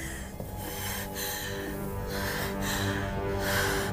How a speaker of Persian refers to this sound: ملکه نفس نفس میزنه.